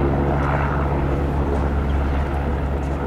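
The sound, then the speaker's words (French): A loud, steady engine drone from large, heavy propeller transport aircraft flying slowly and low overhead at the close of a parade, with strong low rumbling tones filling the whole few seconds and no voices. “Donc ce sont des gros porteurs, ce sont des avions de transport.”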